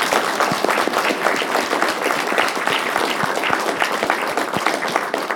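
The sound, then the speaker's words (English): A big round of audience applause thanking the panelists, steady and loud, with dense overlapping claps sustained throughout without pause or voices. “If we can get a big round of applause.”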